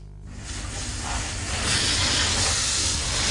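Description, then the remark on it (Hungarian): A fountain on Margaret Island (Margit-sziget) being washed down with a high-pressure water spray: a steady, broad hiss swells over the first second or so, then holds loud, with a low rumbling drone beneath and no voices. “Mossák a szökőkutat a Margit szigeten.”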